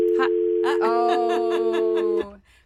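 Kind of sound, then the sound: signal or alarm, phone dial tone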